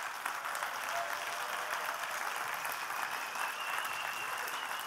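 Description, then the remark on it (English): A game conference audience applauds steadily for about five seconds, a dense, even wash of many hands clapping at once with no pauses and no voices standing out. “So genuinely, like a real clap now.”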